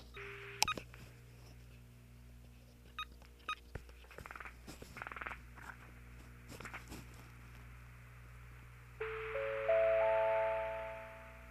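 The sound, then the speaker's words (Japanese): Telephone touch tones as a call is dialed to a weather forecast line, with a microphone set in the caller's ear and the phone held to the same ear: a brief beep, a scatter of soft button clicks, then a steady electronic dual tone near the end, over a constant low hum with no talking. “この状態でですね、電話をかけてみましょうか。”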